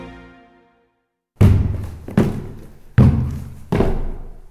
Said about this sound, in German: Hier hört man nicht den Buchelklopper, den berühmten süddeutschen Stampftanz. Nein, so klingt es, wenn ich mit meinen Krücken in den vierten Stock zu meiner Wohnung emporsteige. Das braucht seine Zeit, ist aber gut für die Oberarme.